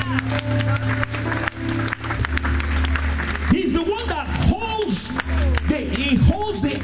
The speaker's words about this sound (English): Give the Lord another clap of hands.